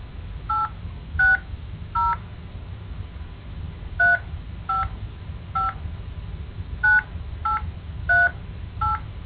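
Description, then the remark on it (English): Ten touch-tone keypad beeps dialing a 10-digit phone number into an AT&T automated account phone system, short crisp dual-pitched tones entered in uneven groups of three, three and four over a low background hum, with no talking. “Using your touchtone keypad, please enter the 10-digit phone number you were calling about.”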